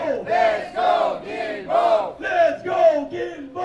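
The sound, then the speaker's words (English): A crowd of protesters outside the De l'Église metro station in Verdun, Montreal, chanting in unison about metro accessibility, their voices rising and falling in a steady, loud rhythm of repeated syllables, roughly two beats per second, with no single speaker standing out. “Thursday, June 19th, a group of protesters outside the De l'Église station in Verdun were raising awareness about accessibility in the metro system.”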